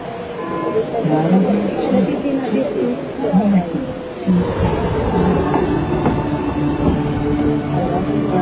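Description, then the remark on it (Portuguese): A city tram rolls steadily along its rails on a roughly 10-minute ride from the new town to the old town, a continuous low rumble with faint rattling and clicks, with muffled passengers chatting throughout. “Mais ou menos uns 10 minutos de viagem no bonde da cidade nova até a cidade velha.”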